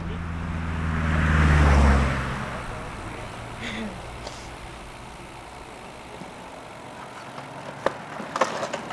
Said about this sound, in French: Bah t'as failli l'avoir de près la voiture.